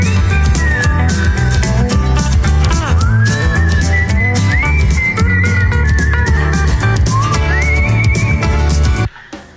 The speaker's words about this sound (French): C'est l'hurluberlu qui sifflote et c'est attendrissant.